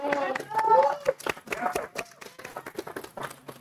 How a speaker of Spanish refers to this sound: Un aplauso, por favor.